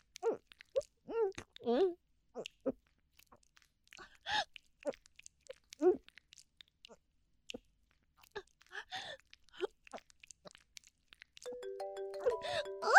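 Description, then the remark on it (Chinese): A phone starts ringing near the end, a bright electronic ringtone of steady stepped tones growing louder, after a stretch of scattered vocal sounds and breaths. “等一下，我电话来了。”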